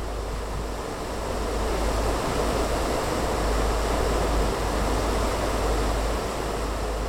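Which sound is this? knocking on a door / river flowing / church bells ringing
river flowing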